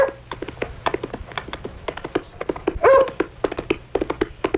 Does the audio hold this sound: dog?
yes